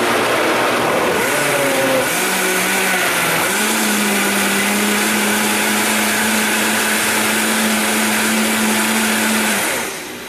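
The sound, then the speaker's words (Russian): A kitchen blender whirs loudly and steadily for about ten seconds as food in its jug is blended down to make room for more ingredients, its motor pitch shifting upward early on before settling into a constant high hum, then cutting off at the end. “Мы сейчас, поскольку мы сейчас просто блендаем, чтобы оно умялось, да.”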